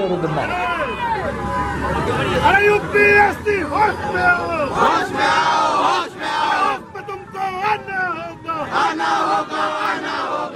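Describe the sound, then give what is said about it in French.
A loud, agitated crowd of militants shouts and yells over one another, with many raised voices rising and falling in overlapping bursts throughout, creating a continuous tumultuous roar. “Une foule, des militants qui ne se cachent même plus pour agir.”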